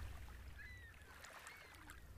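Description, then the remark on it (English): Oars dip and stroke through water as a boat is rowed, with soft splashes and trickles over a steady low rumble. No one speaks. “When Jesus heard what happened to John, he climbed into a boat and began rowing. The oars gently dipped into the water as he rowed away to a quiet place by himself.”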